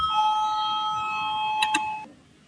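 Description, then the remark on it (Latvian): A steady electronic voting bell in a parliament chamber rings continuously for about two seconds to call a vote, with a couple of brief clicks near the end before it cuts off abruptly, leaving quiet room noise. “Lūdzu zvanu, balsosim par 18.”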